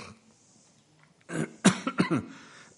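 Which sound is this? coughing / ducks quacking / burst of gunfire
coughing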